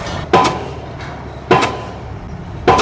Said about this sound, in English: A pile-driving hammer slamming 85-foot concrete pilings into the earth. It was even with the first piling when he set the hammer on it. And he's down about 10 feet now.